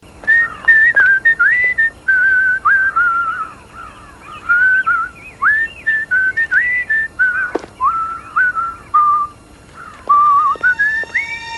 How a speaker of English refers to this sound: Adam said Terry O'Quinn in The Stepfather, whistling Camptown Races.